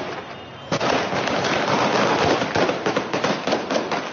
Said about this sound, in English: Video footage later showed the Taliban firing into the air and attacking people with batons to disperse the crowd.